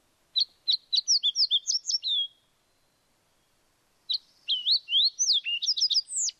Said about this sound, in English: I think Tyler's got a fox sparrow.